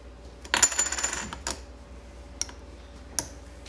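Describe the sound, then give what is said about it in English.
A brief metallic rattle and ring opens, followed by three sharp ticks spaced almost a second apart, like a countdown timer clock ticking down the last seconds for answers in a quiz game. “All right, my clock down.”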